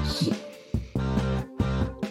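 A phone alarm plays a short burst of music, loud repeating chords with strong harmonic tones in a steady rhythmic pattern, with no one talking over it; the alarm is set for D&D.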